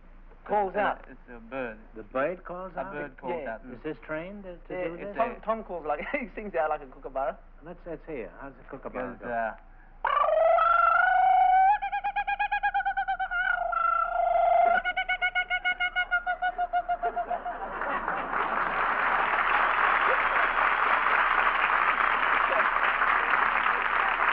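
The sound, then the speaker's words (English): A kookaburra call: about ten seconds of rapid, rhythmic chuckling notes, then loud, sustained hooting cries with a falling pitch, followed by a burst of audience laughter and applause. “They used to wake us up with the kookaburras that ran about.”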